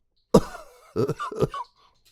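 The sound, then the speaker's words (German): A voice imitates a sick dinosaur's sudden, forceful sneeze, heard from inside behind a door as someone knocks, then a pause and two short, breathy snuffling bursts, fairly loud. “klopft an der Tür, doch von drinnen hört er nur ein Niesen und ein Schnaufen.”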